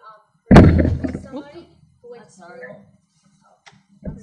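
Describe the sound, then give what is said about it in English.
A sudden loud, booming thump of someone running into a microphone boom, followed by rustling and a voice talking; a smaller knock sounds near the end. “Somebody does it every year, runs into our mic booms.”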